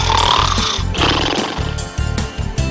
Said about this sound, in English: I think I know. Someone's snoring. Someone's snoring. That's right.